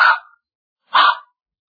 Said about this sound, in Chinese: 时间不大，就听到法庭上传来一阵叫喝声和老头惨叫的声音，紧跟着就听着汪汪狗咬的声音。